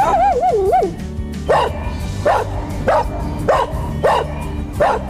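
Kira, a large seven-month-old dog, lets out a wavering, high whine, then barks about six times in a steady rhythm, each bark sharp and fairly loud, with no one talking.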